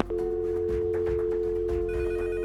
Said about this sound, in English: Will somebody shut those damn phones off? Sir, I can't. It's like every conspiracy nut has decided to call us tonight.